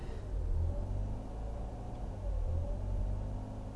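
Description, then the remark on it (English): A car engine, the speaker's car called Tiger, growls with a deep, steady rumble, fairly loud, swelling slightly a couple of times over a few seconds with no one speaking. “This is for the sound that my car makes.”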